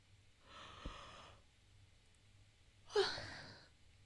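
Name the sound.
person yawning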